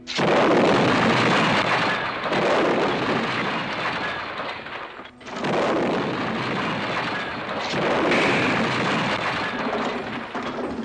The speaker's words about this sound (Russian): «Протега!» – крикнул кто-то, но в следующую секунду все прочие звуки потонули в грохоте взрывов.